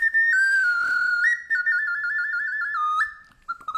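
clay ocarina being played

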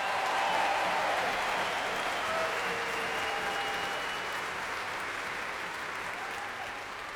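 audience cheering and applauding

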